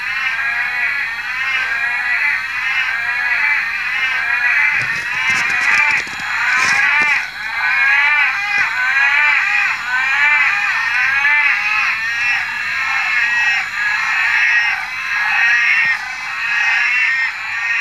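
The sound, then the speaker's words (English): A dense chorus of frogs calls continuously and loudly after a bucketing downpour that followed months without rain, near Corunda in far north Queensland; many overlapping bleating, nasal notes form a constant wavering din, with a few brief louder knocks partway through. “Thankfully, you were able to tell me that this call was recorded near Coranda in far north Queensland”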